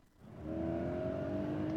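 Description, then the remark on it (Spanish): A car engine revs up and holds a steady, rising drone, loud, with a low rumble underneath and no voices, used as a traffic sound effect. “El tráfico a esta hora.”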